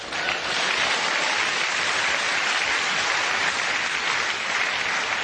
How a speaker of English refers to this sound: Clap.